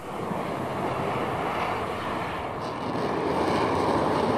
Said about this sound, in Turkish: Japonya, Kuzey Kore'yi izlemek için uzaya uydu gönderme kararı aldı. Bunun için özel bir şirketle anlaşıldı. Aylar süren hazırlıklar tamamlandı. Uyduyu taşıyan Kairos roketi geri sayımın ardından fırlatıldı.